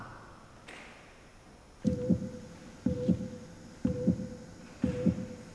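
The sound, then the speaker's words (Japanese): A human heartbeat thumps four times at a steady pace of roughly one beat per second, each beat a low, muffled double pulse, following a brief stretch of faint hum. “ちょっと胸に手を当ててみると伝わってくる心臓の音でした。”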